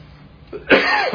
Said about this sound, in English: I don't know why I'm suddenly coughing, but I am.